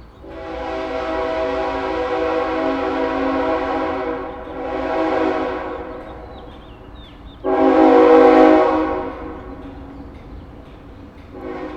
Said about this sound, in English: Oh, and there's the fucking train. I hear the train. Ah, this is the last train. The last train during a podcast. Can you guys hear the fucking train? Hold on, I'm gonna open the fucking window. We gotta get the train.